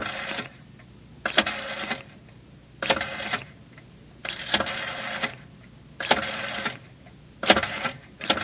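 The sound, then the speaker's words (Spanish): A number is dialed on a public telephone with six separate mechanical whirring, clicking bursts, each under a second, spaced by short pauses, fairly clear over a faint background hum. “María Claudia se dirige al teléfono público. Marca el número de Juan Luis.”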